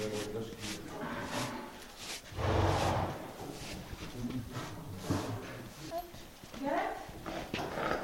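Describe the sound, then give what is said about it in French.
A horse being prepared and harnessed for pulling a carriage shifts, its hooves clopping and scuffing with a brief loud rustle or snort, while people talk. “Là, on va préparer les chevaux pour l'attelage, pour le premier tour qui part à 10h30.”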